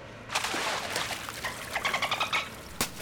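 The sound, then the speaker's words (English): Dolphins swimming in circles chatter in rapid bursts of high squeaks, whistles and clicks, moderately loud, and hit the water with their tails, with a sharp splash-like burst near the end. “The dolphins made lots of noise and hit the water with their tails.”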